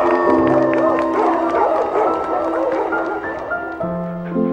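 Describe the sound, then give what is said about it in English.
A crowd of voices yells and howls together in a wild, animal-like explorer call for new senior wilderness explorers, with wavering cries overlapping loudly for several seconds. “So let's give a big explorer call to our brand new senior wilderness explorers. Ready, everybody? Ka-ka! Roar!”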